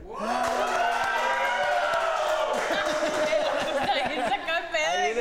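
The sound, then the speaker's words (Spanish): An audience shouts and cheers loudly over scattered clapping and heavy thumps, a dense wall of many voices that keeps going steadily for several seconds. “Si esto es real, el público tiene que gritar y aplaudir, por favor.”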